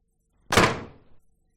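door slamming shut

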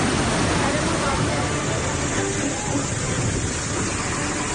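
heavy rain falling

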